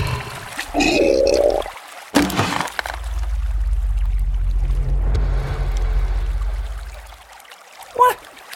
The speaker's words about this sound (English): What happened? The rod broke. No doubt sending that unwholesome beast back to the depths of the Pacific where it belongs.